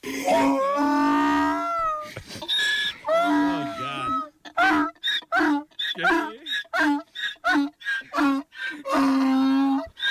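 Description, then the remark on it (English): A donkey in Spain brays loudly and at length, starting with drawn-out wavering honks, then breaking into a rapid, rhythmic run of rasping hee-haw pulses before a final long, strained cry. “Sounds like the donkey missed him.”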